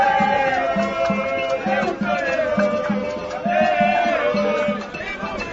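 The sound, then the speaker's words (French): A large, lively crowd filling the courtyard of the Constitutional Court in the Democratic Republic of the Congo chants and sings together over a steady, rhythmic thumping beat, voices rising and falling continuously and loudly throughout. “Une foule nombreuse qui envahit la cour constitutionnelle fait de l'animation.”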